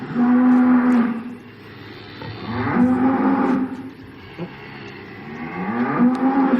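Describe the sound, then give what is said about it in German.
A cow, the holy cow Maria, moos three times in a row, long, deep, drawn-out lows with short pauses between them, loud, with no talking. “Swami Durcheinanda mit Dialog mit der heiligen Kuh Maria bei G.”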